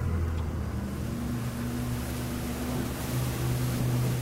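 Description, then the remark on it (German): A boat engine drones steadily at full throttle on the ocean during a 58-kilometre trip to Gorgona Island. It makes a loud, constant low rumble with a sustained tonal hum, overlaid by rushing water and wind noise throughout, with no talking. “Also volle Kraft voraus.”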